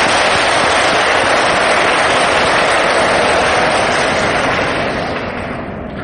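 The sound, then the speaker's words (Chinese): A church audience claps together to welcome returning visitors, a loud, dense, steady burst of applause that carries on for several seconds before gradually thinning and fading at the end, with no voices over it. “在这里再次欢迎你们回到来这个大家庭，都邀请本堂不嬲都在这里的教友给些掌声这些朋友。”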